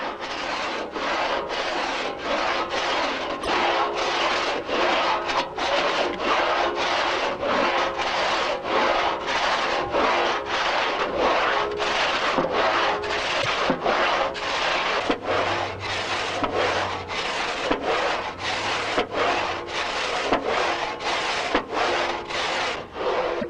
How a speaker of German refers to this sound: Wenn das Ende vor dem Kopfstück des Bockes erreicht ist, wird zum nächsten Schnitt angesetzt. Bei den ersten Sägezügen gibt der Obermann dem Blatt mit der Spitze des vorgestellten Schuhes eine provisorische Führung.